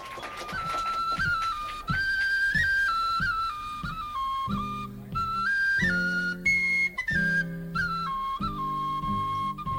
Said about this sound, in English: Breaking from the rock and roll tradition, going a little, traditional fiddle music. You can stomp your foot to this one.